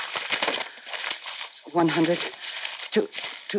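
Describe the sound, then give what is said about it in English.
A stack of fake money, actually blank paper, being riffled and counted, with a steady run of crisp flicks and crinkly rustles, briefly joined by a low murmuring voice partway through. “Sure you want to count it.”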